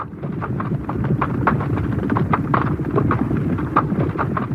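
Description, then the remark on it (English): Many hooves pound in a dense, overlapping rhythm, like several horses galloping together through a hurdle in a horse race, a steady loud drumming with rumbling low-end thuds and no voices. “And if you're clever at it, you vary the level a little bit so it sounds like several horses going through together.”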